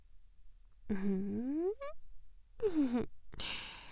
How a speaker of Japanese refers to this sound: でもこうしてふーってされるのも気持ちいいでしょう。私の吐息どんな感じ？ねえ、ゾクゾクしちゃう？